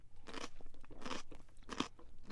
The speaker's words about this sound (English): Good crunch. And crunch in the winter is a good thing. We want that.